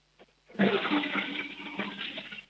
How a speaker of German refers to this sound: Hier kommt die Kärntner Klospülung von Sebastian.